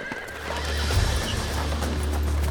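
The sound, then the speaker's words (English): A horse whinnies amid a steady clip-clop of hooves as horse-drawn sleighs from the town come in a storm to rescue children from a school, set against a low, rumbling background that swells slightly partway through. No one speaks. “Luckily, a group of men from the town had organized a procession of horse-drawn sleighs to rescue children from the schools.”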